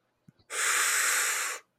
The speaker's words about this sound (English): Do we take a breathing break?